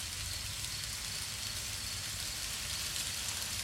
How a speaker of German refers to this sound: das Geräusch, wenn der Regen draußen prasselt